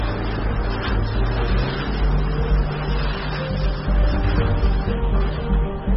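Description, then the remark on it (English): A steady engine drone of a car driving along a road in traffic, a constant low rumble with road noise that holds at an even loudness throughout, with no voices. “Traffic is one thing, but boats on the road? Unconventional traffic.”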